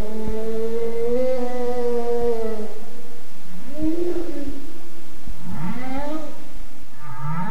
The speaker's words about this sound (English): Over the course of several days suspended in the ocean, the recorder collected plenty of boat sounds, but also this. That gets the humpback feeding call, and then this eerie whale song.